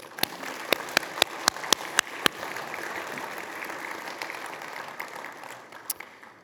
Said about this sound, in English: We are grateful to God that he has put you in our lives. So one more round of applause for our mothers.